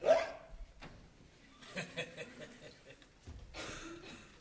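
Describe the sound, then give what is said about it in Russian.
A few loud, abrupt drunken hiccups break out at uneven intervals, each a sharp voiced gulp, with a breathy, slurred quality and no speech in between. “Ну, например, икота.”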